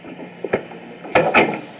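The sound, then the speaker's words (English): A door swings shut, with a light wooden knock followed a moment later by two heavier thuds as it closes and latches. No one speaks. “Close the door.”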